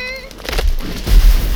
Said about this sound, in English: Timber!